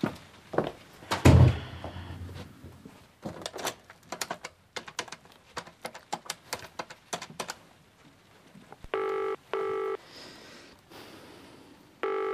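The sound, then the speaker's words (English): An office telephone being dialed: a run of sharp button clicks at an irregular pace, then two short electronic dial tones near the end. No one speaks. “Use the phone in my office through there. You need to dial 00...”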